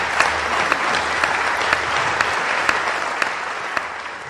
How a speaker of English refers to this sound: Oh, there we go. Finally, applause.